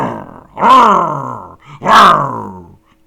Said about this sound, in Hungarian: A fehér szőrű már tombolva acsarkodott, kivillantva éles farkasagyarát.